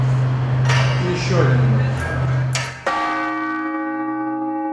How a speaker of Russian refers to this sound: Так между ударами читается 50-й покаянный псалом. В этом случае благовест, что призывает людей на службу, равномерный. 50 секунд прошло, звук примерно рассеялся.